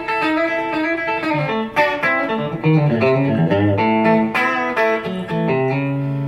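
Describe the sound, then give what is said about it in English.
A bright, twangy, Telecaster-like electric guitar tone from the back pickup position plays a steady run of single notes and double-stops, crisp and trebly with sharp pick attacks, continuous and fairly loud with no talking. “And then I want bright and telly-like back here.”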